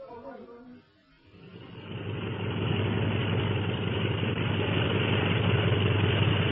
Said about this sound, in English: The doors of the secret hangar. Those planes will be taxing out for a takeoff at any minute.